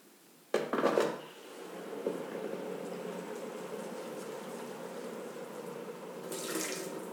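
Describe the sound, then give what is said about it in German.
Hot water splashes into a teapot and swirls around as the pot is rinsed out to warm it, starting with a sharp splash, then a steady running wash, and ending in another brief gush. No one speaks. “Nimmst etwas von dem heißen Wasser und spülst die Teekanne aus, damit sie heiß wird.”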